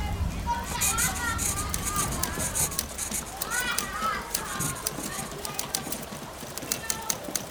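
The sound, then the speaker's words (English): Young girls play jackstones and read stories aloud in a small room shared by 25 women and children, their high overlapping voices rising and falling through steady background bustle, with scattered sharp little clicks and taps throughout. “The sewing machine clatters and someone types while young girls play jackstones and read stories aloud.”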